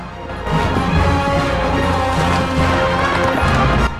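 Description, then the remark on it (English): A horse ridden by Gisborne gallops steadily through a forest, hooves pounding in a fast, continuous rhythm, fairly loud, with a dense rumbling background throughout. “Meanwhile, Gisborne's racing through the forest.”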